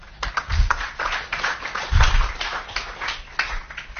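An audience applauds steadily for about four seconds, a dense crackle of many hands clapping with a couple of low thumps underneath and no voices.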